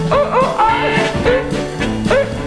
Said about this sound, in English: I got some good dogs. You hear?